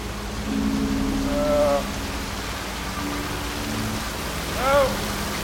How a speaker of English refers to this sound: looks skywards as rain pours down.